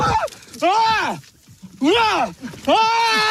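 A Japanese man, alone in Japan, screams at a black bear charging at him, trying to scare it off. He gives three loud, drawn-out, strained cries, each bending up and then down in pitch, separated by short breathless gaps.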